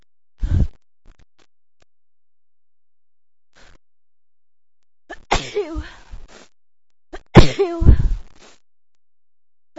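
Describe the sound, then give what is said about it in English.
Loud sneezing: a brief sharp burst early on, then two forceful sneezes a couple of seconds apart, each preceded by a breathy, gasping inhale, with quiet pauses between. “I feel like I'm gonna sneeze.”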